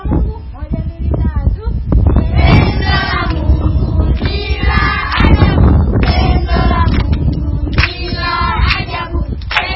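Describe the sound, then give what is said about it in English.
Strong wind buffets the microphone throughout, a loud, steady low rumble with gusty surges, while children at a workshop in Tanzania sing and talk over it. “As you can hear, our workshop is very windy.”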